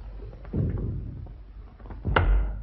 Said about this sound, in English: He backs out, closing the door.